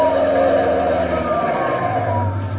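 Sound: police car siren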